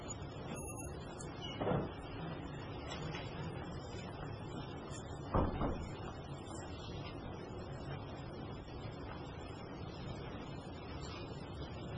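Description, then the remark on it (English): A woman struggles to open a door, rattling and bumping it twice over a steady low rumble, with faint background voices and no clear opening. “Just watch her struggle with the door.”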